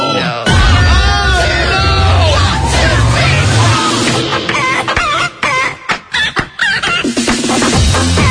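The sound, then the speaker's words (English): A loud, frantic chicken sound effect from the station, played to wake people up on a Friday, with rapid clucking and squawking bursts, layered with a busy clamor, ending in choppy, stuttering squawks. “That nutty chicken sound you guys what have on the what? Station.”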